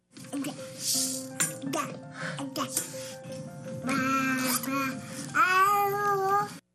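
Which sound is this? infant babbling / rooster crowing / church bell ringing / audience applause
infant babbling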